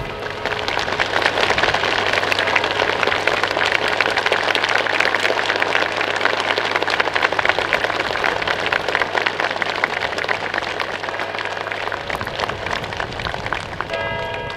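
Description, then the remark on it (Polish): A crowd at the Royal Castle in Warsaw claps steadily and densely for about twelve seconds as the restored tower clock starts running at 11:15, a continuous loud patter of many hands, before the applause thins out near the end. “Także symbolicznie o 11.15 ruszył ten zegar i dostał klaski.”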